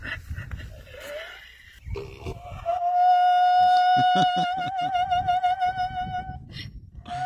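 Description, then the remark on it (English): A donkey named Harriet, in Ireland, brays in a long, loud, wavering high note that sounds almost like operatic singing, preceded by rough breathy wheezes and breaking into pulsing gasps toward the end. “The opera donkey. Let's hear it again.”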